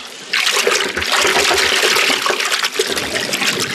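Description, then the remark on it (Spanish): An inert body with a thick rope and heavy weight tied to its legs is thrown into deep water by four men, plunging in with a sudden loud splash, followed by several seconds of churning, bubbling water as it sinks like lead to the bottom. No one speaks. “El cuerpo inerte de Calimán cae y se hunde como plomo, desapareciendo en el fondo lóbrego de las aguas.”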